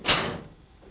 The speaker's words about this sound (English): close the door properly when you go.